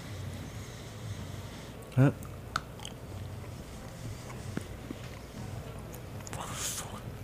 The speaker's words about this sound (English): I constantly need to be reminded that when I chew, I can't chew into the microphone. Because we don't want to get the sounds of chewing.